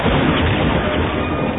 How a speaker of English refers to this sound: The grav truck exploded.